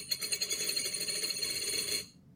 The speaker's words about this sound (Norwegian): Ja, høres ut som noen kaster mynter i et glass. Ja, og dette på en måte to lyder i en som du skal på en måte gjette deg frem med. Du har på en måte gjettet riktig på det. Mm. Mm. Hva kan det være? Mynter i et glass? Nei, mer sånn mynter. Ja, penger.